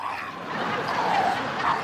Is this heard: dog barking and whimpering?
yes